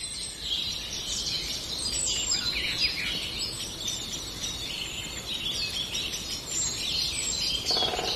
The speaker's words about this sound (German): Oder ist es doch eine Amsel? Wie gesagt, diese Rufe sind manchmal sehr schwer zu unterscheiden. Das ist doch eine Amsel, keine Singdrossel. Deren Rufe klingen manchmal sehr ähnlich.